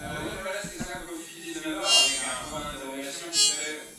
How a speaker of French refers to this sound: Et après... aller regarder plus précisément certaines parties et les mélanger les unes avec les autres de manière aléatoire. Ce qui nous donne, si on est à l'extrême du zoom, un drone, un son tenu.